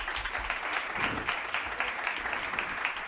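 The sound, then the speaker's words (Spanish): Steady audience applause for a person who has just been presented with a gift, a dense wash of many hands clapping at a fairly even level for a few seconds, with no voices rising above it. “un aplaudiment per tu.”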